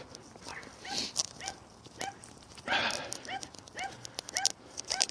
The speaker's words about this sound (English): Oh, a yappy dog. Who would have thought?